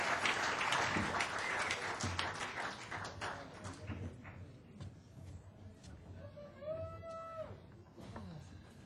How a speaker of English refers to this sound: So how about a big round of applause